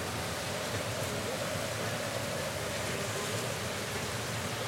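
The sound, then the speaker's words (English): A steady, unbroken hiss of falling rain fills the whole clip, with a low rumbling wash of street traffic underneath and no clear voices, recorded in Nashville on a rainy Thursday afternoon while pumping gas. “It's been rain and traffic all day long. Here's what it sounds like.”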